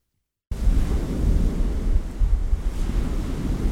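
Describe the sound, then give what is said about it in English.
Lake Superior waves roll in and wash against a clay bluff at the edge of lakefront property on the south shore, near Port Wing, a steady rumbling surge with gusts of wind buffeting the microphone, after a half-second of silence. “Waves roll against the clay bluff at the edge of Mike and Kathy Briggs' lakefront property on the south shore of Lake Superior”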